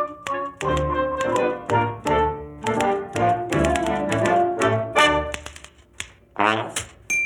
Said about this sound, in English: So she writes a letter on her typewriter to Escapilla the Toreador, telling him of her plan.